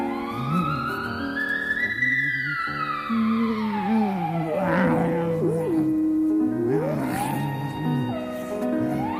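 dog howling

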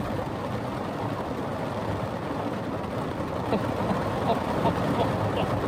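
heavy rain pouring down

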